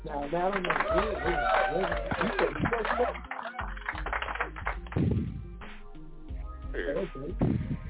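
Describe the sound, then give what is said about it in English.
An applause sound effect: sharp, clicky claps and patters rise in bursts over a bed of chattering, whistle-like voices, growing louder toward the end. “Let me get y'all some clap.”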